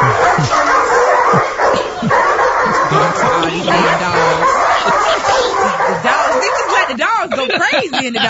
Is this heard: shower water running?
no